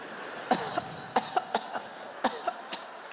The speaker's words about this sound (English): And at some point, you'd be sitting in the house with a glaze over your eyes. And you'd hear them coughing on the other side.